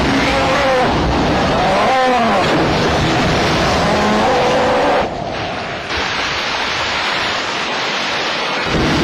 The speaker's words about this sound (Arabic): في بعض الأحيان تكون هذه الرياح قوية جدا، إلى درجة أنها تدمر المنازل والمشآت.